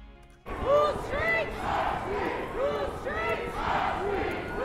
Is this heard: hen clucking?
no